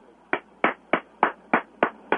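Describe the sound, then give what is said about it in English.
One person claps seven times in a steady, even rhythm, each clap a sharp, crisp smack with nothing else audible in between. “You're applauding? I do. I applaud.”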